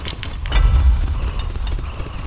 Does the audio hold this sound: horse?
yes